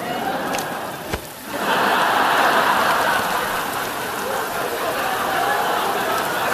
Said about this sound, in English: Rain, another great equalizer, falling on the head of the brilliant and the unremarkable alike.